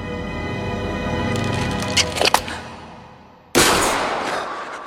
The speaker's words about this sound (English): And then after that awful pause of silence, we hear those drums that Gandalf was just reading about.